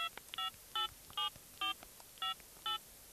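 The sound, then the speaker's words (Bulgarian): A telephone number is being dialed to call the police: six short, bright keypad beeps at a steady, even pace, each tone slightly different in pitch, with no voices. “Запазете спокойствие, ще се обадя в полицията.”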